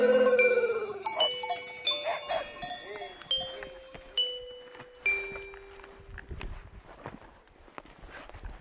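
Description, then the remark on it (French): Livestock bells from a grazing herd clank and ring irregularly, several overlapping metallic tones with bright, lingering decays, some strikes louder than others, over a soft background hiss. “Là, on entend les sonnailles.”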